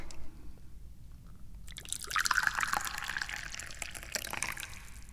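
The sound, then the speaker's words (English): Quiet room tone gives way to a steady stream of tea splashing into a cup, bright and bubbly, rising slightly in pitch as it fills over several seconds. “I'm the chairman of the Dubious Goals Committee, and other facts include, but are not limited to, the fact that I'm pouring tea.”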